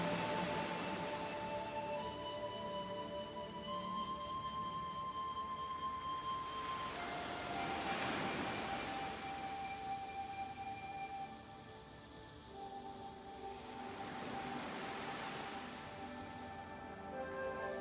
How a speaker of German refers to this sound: Leise hörst du nun das Meer rauschen.